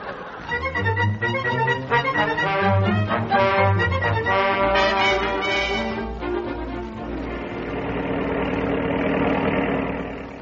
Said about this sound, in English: The car is going fine now.